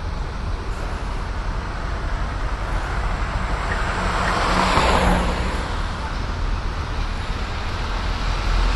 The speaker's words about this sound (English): Uh, It may be part of that, what we were talking about a little earlier with the, maybe there is just that much more traffic.